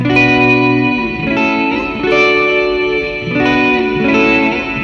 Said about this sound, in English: Yeah, so some really nice reverb trails on that.